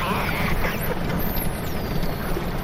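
Several thin, high dolphin whistles rise and fall, faint and overlapping, in an underwater recording made with a special microphone placed in the water off Faro, above a constant dense rumble of water and boat noise.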